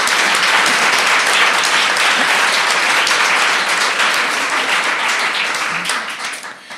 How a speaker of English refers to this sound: She got the individual applause. They're just getting general applause. Could you welcome her?